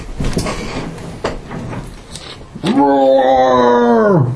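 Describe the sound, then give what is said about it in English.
After a couple of seconds of muffled talk and clatter, a loud, steady roar of a 25-foot-tall Yeti monster bursts in and holds for nearly two seconds, tonal and droning, before cutting off abruptly. “It should be an enormous roar.”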